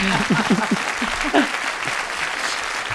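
Audience applause: a dense, steady wash of clapping that holds at an even level for about three seconds, with a few brief voice-like sounds over it near the start.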